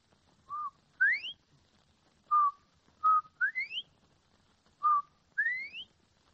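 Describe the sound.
A person whistles an imitation of a bobwhite quail call, a short steady note followed by a sharp rising whistle, repeated about three times clearly, with no talking.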